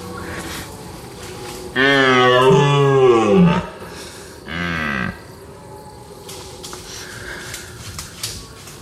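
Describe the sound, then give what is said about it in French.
Two deep, drawn-out stag roars ring out during a face-off fight between two large stags: a long groaning bellow that falls in pitch, then a shorter one a moment later, over quiet outdoor background with no talking. “Et ce qui n'est pas silencieux, c'est justement le face-à-face, hein, entre un cerf et un autre grand cerf. Des combats vifs, hein, mais on perçoit non seulement leur souffle, mais vos souffles mêlés.”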